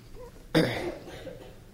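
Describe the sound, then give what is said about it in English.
One sharp cough from a person with allergies bursts out after a brief quiet moment, with a rough throat-clearing rasp trailing off into faint room noise. No one speaks. “Pardon me, I've got allergies upon me, so try to not sniff and clear my throat as much as I can.”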